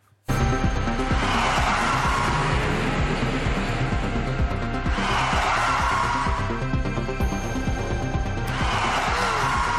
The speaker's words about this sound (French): Nous vous avons aussi retrouvé une campagne de 2017 de la sécurité routière, assez parlante à des piétons qui traversent au rouge. On envoie un son de crissement de pneus qui fait très peur pour les effrayer et les prendre en photo.